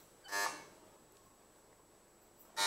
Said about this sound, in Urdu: چلیں جی، ہم اس میں آپ کو چیک کر لیں بھائی، آپ کی وہ بزر بج رہے نہیں بج رہے؟ چلیں جی، آپ کا چیک کریں، بزر بج رہے نہیں بج رہے؟